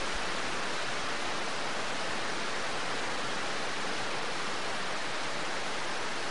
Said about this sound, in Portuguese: E dá-lhe chuva.